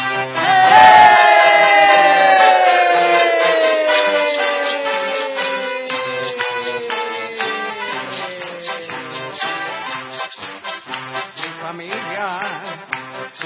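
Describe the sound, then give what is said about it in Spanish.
A crowd claps along in a steady rhythm, loud, while cheering voices and a long falling shout rise over the clapping at the start. “¡A ver las palmas!”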